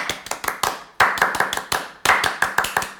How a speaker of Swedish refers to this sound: Och vi då i kosfamiljen lägger ju självklart då en fransk applåd och säger välkomna till Känslor och sånt, Lustens Oas. Un, deux, trois.